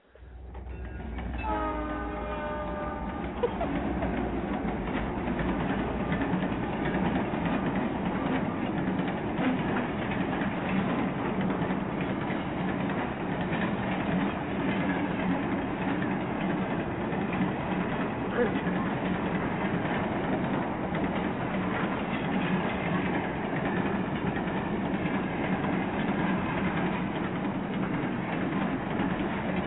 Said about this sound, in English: All right. So now we're going to hear a diesel train.